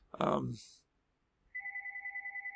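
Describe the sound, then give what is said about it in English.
A brief burst of a voice, a moment of silence, then a telephone starts ringing: a steady electronic two-tone ring that pulses rapidly and continues at a moderate level. “And I forgot to turn the phone off.”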